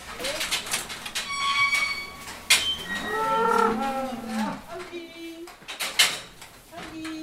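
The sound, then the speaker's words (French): A cow lets out a long, drawn-out moo, rising then falling in pitch, with occasional metallic clanks and faint bird chirps in the barn around it. “Elle peut, par exemple, plutôt que de couper le foin dans la prairie, de l'apporter ici, de le redistribuer dans l'auge, une vache, elle peut sortir et brouter.”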